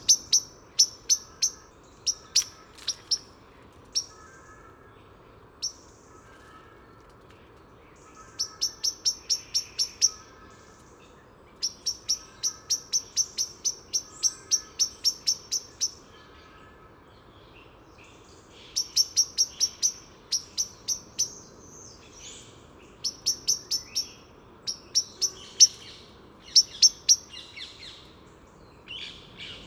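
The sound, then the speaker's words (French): A Eurasian blackbird gives its alarm call from a large mass of ivy: sharp, metallic chinking notes in rapid bursts and rattling runs, loud, with a faint steady background hum and no one speaking. “Alors, alarme d'un merle noir dans un grand massif de lierre.”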